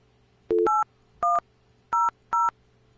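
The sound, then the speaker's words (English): Five short touch-tone beeps from a phone keypad being dialed, coming through over Skype, two quick ones back to back and then three spaced apart, clear and alone over a faint steady hum. “Well, we can hear the tones. So the tones are working.”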